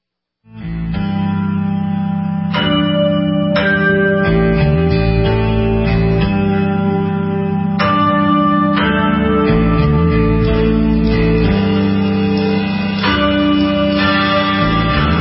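Rock guitar music with a heavy chorus-and-effects sound, ringing chord tones that chime like church bells over a steady low drone, loud and continuous with no voices.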